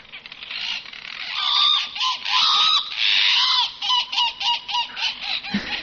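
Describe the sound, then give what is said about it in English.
Loud, harsh honking calls from a channel-billed cuckoo, repeated in raucous bursts that run together early, then break into a rhythmic series of separate squawks toward the end, with no talking. “If you've heard or seen the Channel Billed, oh, we're going to reveal it, the Channel Billed cuckoo, obligate brood parasite that he is, around Alice Springs, you want to hear about it, don't you”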